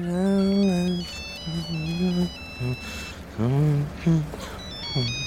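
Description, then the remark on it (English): A telephone rings late at night as a call is placed to find where someone is, with a repeating electronic ringtone, short high stepped tones cycling in a steady pattern, while a voice murmurs underneath at moderate volume. “I remember rolling over and looking at the clock, and I thought, no, I'm going to give him a ring just to see where he is.”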